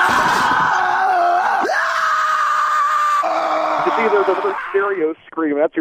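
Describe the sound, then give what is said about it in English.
A loud, sustained scream holds a high pitch for several seconds, then breaks into shaky, wavering cries at the end, with no words spoken. “the scream I hear is my diet saying, no!”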